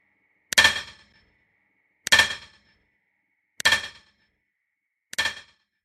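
A hammer strikes stone four times at a slow, steady pace, each blow a sharp metallic clang with a brief ringing tail. The final strike is a little softer, and no one speaks.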